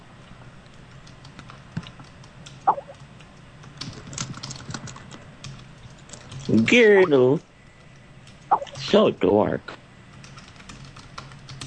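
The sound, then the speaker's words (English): Steady clicking of computer keyboard keys tapped throughout, light and irregular, while people speak in short bursts over the typing. “Can you talk while I'm typing, please?”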